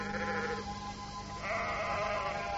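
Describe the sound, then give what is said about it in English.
A sheep with a large red "JR" marked on its side bleats twice outdoors on a moor, a short wavering call followed after a brief pause by a longer, louder one, with a steady low background rumble. “The first sheep I saw on the moor, with a great red JR on his side, I do assure you that my spirit leapt, and I shouted out,”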